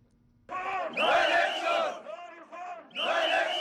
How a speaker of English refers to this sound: For the third Monday in a month, protesters gathered outside Kenya's Independent Electoral and Boundaries Commission in Nairobi to demand the commission members resign.